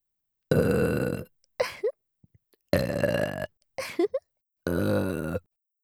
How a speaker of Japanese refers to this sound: ではでは、オナニー専用ゲップ失礼します。